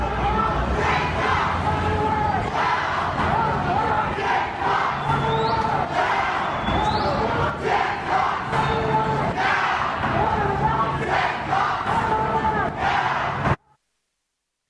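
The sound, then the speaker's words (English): A large crowd chants together in loud unison, a dense roar of many voices repeating the rhythmic phrase "Pigs in a blanket, brown like bacon," with occasional whistles rising above before the sound cuts off abruptly. “in particular, I want you to listen to the sound of the crowd size with that.”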